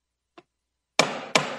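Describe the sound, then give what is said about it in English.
A gavel strikes twice in quick succession to conclude the 112th NGA annual meeting, two sharp, loud wooden bangs that ring briefly, preceded by a faint light tap. No one speaks. “It was a bang of the gavel.”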